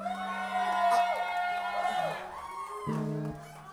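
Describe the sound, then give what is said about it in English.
An audience in Flagstaff cheers and whoops beneath steady, sustained flute notes, with a low held tone that shifts pitch partway through and bright overtones above. Voices blend into the noisy crowd. “Satisfy the flute cheering section up front here.”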